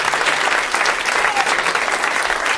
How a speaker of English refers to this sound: All right, thank you so much. Let's give a round of applause for my wonderful guests.